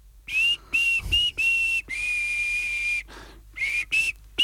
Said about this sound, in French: Pourquoi tu siffles ? Parce que je pense à quelque chose.